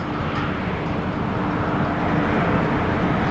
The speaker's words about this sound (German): Ein paar hundert Meter weiter ärgern sich die Anwohner über den Lärm, der von dem Schiff ausgeht